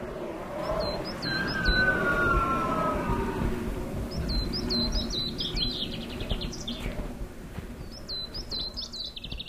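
A rare winter bird in the Black Forest calls in three bursts of short, high, rapid chirps, as if from afar. The call is cut by wind turbine rotors and rises above a steady, monotone rushing roar that fills the low end throughout, while fine ice crystals fall.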